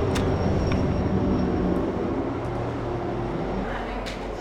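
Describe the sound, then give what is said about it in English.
A heavy, steady rumble of a train passing on the tracks by a hair salon in downtown Laramie, loud, with low droning tones and occasional clanks over about four seconds. “She works at Vision Salon in downtown Laramie, right by the train tracks.”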